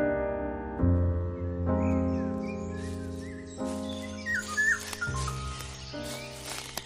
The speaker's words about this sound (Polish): Słyszałaś? Co? No, jak ptak tam śpiewa. O, widzisz go? Tu, na tej gałęzi.